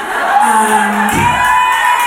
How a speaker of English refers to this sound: I didn't have to finish the sentence before you cheer, okay?